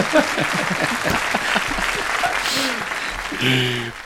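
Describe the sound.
Steady audience applause fills the whole stretch, a dense wash of clapping with voices chattering underneath and a brief harmonic shout or call near the end.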